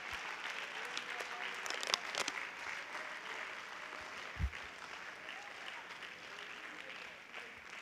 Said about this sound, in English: Let's stand to our feet and clap our hands to the Lord. If you believe that, if you feel that way, will you clap your hands to the King of Kings and the Lord of Lords? Give him praise.